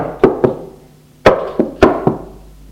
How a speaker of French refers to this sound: Midi, il est dans sa chambre à étudier, on frappe à sa porte.